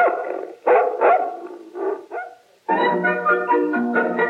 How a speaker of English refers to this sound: I raise dogs. Big ones to chase nosy survey men. Go get him, puppy!